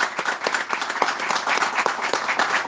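A crowd in Las Talas, Caucete, applauds public health staff steadily, many hands clapping in a dense, continuous patter with sharp individual claps poking through, moderately loud throughout.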